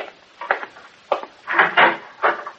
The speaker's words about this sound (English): Hey, who's calling at this time of night? Well, good way to find out is to open the door.